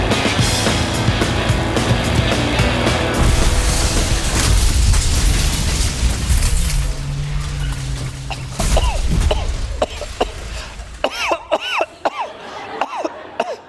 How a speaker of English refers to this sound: Hello, 911. This is Siri. Trevor was in a car crash.